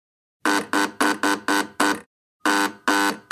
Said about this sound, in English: But first, there's a knock at the front door. Or rather, there are three knocks on the front door. And a buzzer.